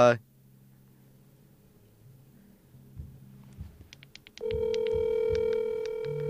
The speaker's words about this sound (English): Can you guys hear the ringing?